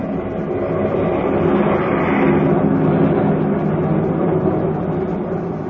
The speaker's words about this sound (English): Far overhead, a fleet of airplanes soars in battle formation, a jagged spearhead against the fleecy clouds.